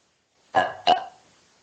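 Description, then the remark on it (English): Two quick, throaty deliberate burps, the second following right after the first, each with a voiced, rumbling quality that trails off into quiet. “You burp first. Belch.”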